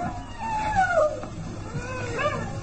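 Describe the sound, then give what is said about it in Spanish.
A drawn-out animal howl wavers up and down, then a second shorter wail follows, fairly loud against a steady background hiss, with no voices. “¿Qué fue eso? Un aullido.”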